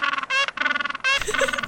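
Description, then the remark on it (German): A penguin brays loudly in a rapid series of harsh, honking, horn-like calls with short gaps between bursts, no talking over it. “Und Pinguine machen auch einen ziemlich geilen Sound. Den möchte ich euch ganz kurz noch vorspielen.”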